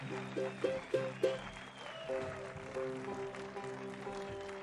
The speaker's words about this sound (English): Hurry back before they stop clapping. Hurry, hurry.